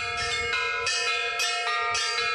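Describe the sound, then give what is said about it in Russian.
Bells that local parishioners of an Orthodox church improvised from metal gas cylinders ring with bright metallic strikes, about four in a steady sequence, each tone ringing on and overlapping the next, fairly loud with no voices. “Для нас это настоящий колокол. Даже если они сделаны из баллонов, они настоящие.”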